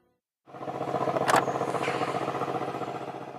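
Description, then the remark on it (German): The powerful V8 engine of a Mercedes C63 AMG starts and settles into a loud, lumpy idle with a rapid rhythmic burble from the exhaust with its exhaust flap open, and a brief sharp pop near the start. “C63 ist das.”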